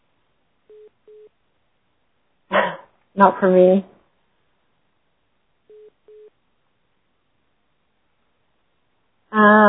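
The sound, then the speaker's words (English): Two pairs of short, steady electronic beeps at a mid pitch, repeating after a pause, with a brief bit of speech and louder voice-like bursts in between. “So I hear beeping.”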